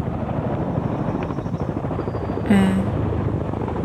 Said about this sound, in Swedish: Helikoptrar med ytbärgare avlöser varandra och har arbetat utan uppehåll i flera timmar.